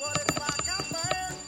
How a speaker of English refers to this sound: Wow, you have a lot of rings to your ringer. That's what she said. I know, I'm still as soon as I reached for the phone, it stopped ringing.